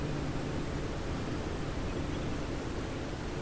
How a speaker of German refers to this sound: Am Rande Sambias erreichst du die Victoria-Fälle. Dort hörst du das mächtige Rauschen des Wassers.